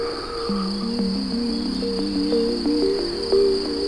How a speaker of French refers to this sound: Les grillons, eux, chantonnent de manière incessante.